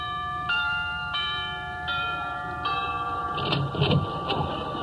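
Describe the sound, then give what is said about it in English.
The doorbell at Frank Sinatra's house rings out in four bright, ringing chime tones, each lingering and overlapping the next, followed by a brief stretch of clattering, rustling noise. “Well, I'll ring the bell.”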